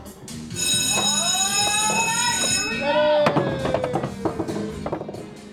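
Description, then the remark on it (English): At Skyline Park in Atlanta, the start bell of a roll-a-ball race game rings with a steady, bright, multi-toned buzz for about two seconds, then gives way to warbling tones and clattering noise over a constant murmur of crowd chatter. “At the sound of a bell, roll a ball.”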